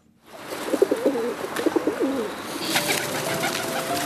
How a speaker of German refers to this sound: Aber natürlich ist auch die Taube mit drin im bunten Strauß der Tiere.